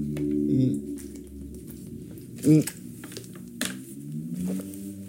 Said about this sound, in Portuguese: Deixa só dar aqui um gol de água, tipo, é lá.